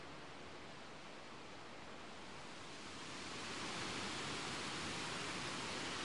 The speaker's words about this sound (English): as we're leaving the river behind, here at Hackfall, the only way is up, as we follow another stream with a series of cascading waterfalls heading in the opposite direction to me